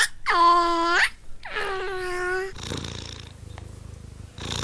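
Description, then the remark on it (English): A cat purrs with a low, steady rumble, following two drawn-out, tonal vocal calls at the start. The purring continues quietly through the second half. “A sound that I like is the sound of a cat purring.”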